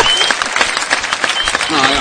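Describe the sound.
A short burst of applause: many hands clapping at once in a dense, steady patter, fairly close and loud, with a voice briefly audible underneath near the end.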